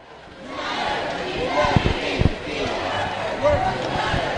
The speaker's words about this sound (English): Protesters marched to the steps of the Capitol and held a rally where farm workers, labor organizers, and legislators addressed the crowd.